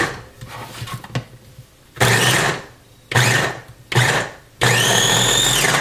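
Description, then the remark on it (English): A Ninja electric food chopper runs in four loud motor bursts, the first three short pulses and the last one longer, with a whirring, grinding tone as onions are chopped. Quiet clatter precedes the pulses. “Chop the onions in my Ninja Chopper.”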